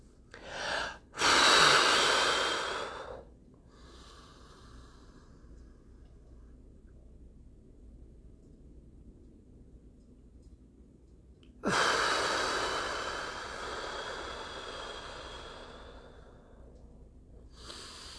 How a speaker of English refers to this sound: All right, so I'm going to start with 4, 7, 8 breathing. Maybe that will give me some energy and wake me up. Here we go.